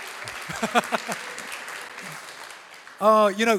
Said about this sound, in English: Yeah, oh, well, give me a warm round of applause then. That'll help me. Go on. Come on, more than that. That's it, yeah.